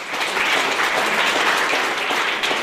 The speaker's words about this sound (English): Sustainable New Zealand's policies, like giving conservation a $1 billion funding boost, were met with applause at the party launch at Zealandia in Wellington.